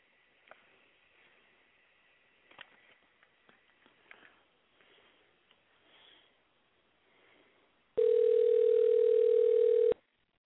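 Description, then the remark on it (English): A telephone line rings as a guest is called on air for the show Big Sad Cider Hour: one loud, steady electronic tone lasting about two seconds, following several seconds of faint rustling and soft clicks, with no one speaking. “Phone lines are ringing.”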